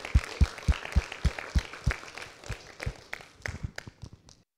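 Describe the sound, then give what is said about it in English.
An audience at a church applauds everyone who put in hard work, with crisp, fairly steady claps that overlap in a quick patter, then thin out and fade over a few seconds. No one speaks. “One more round of applause for basically everyone.”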